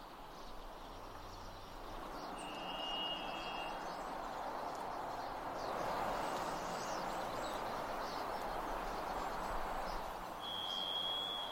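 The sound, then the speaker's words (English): A thrush gives two drawn-out, steady whistled notes, one early and one at the end, separated by a long gap and set against a constant loud rushing background noise. “They're pretty bold sometimes, but they're just the kind of bird that likes to crouch down and sing real loud, but not let you look at them.”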